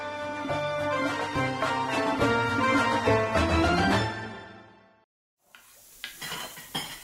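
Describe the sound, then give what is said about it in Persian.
After several seconds of music fade out, a pot of haleem bubbles on a gas stove and is stirred, with a few scraping clinks of a utensil against the pot, moderately loud, as the water in it has almost fully cooked off. “خب بله، آب در قابلمه کاملا کم شده، از روی گاز بر میدارم، دوباره شروع میکنم با اون گوشکوب برقی خوبم مفصل یه دو سه دقیقه لهش میکنم.”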